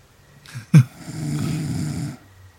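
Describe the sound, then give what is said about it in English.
A single long, rattling snore from an old man, low and throaty, lasting over a second, preceded by a brief sharp click; fairly loud with no talking. “He's snoring now.”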